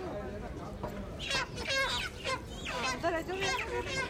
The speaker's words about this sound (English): The Aziz broiler farm shops stocking up on a couple of hundred squawking hens that'll be lucky to make it past midday.